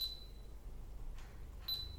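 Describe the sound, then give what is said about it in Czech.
A camera powering back on: a thin, high electronic beep, a soft click, then a second short beep, all quiet against a low background hum, with no talking. “Pardon, se mi vypnul foťák, pro ty z vás, co posloucháte na podcastu.”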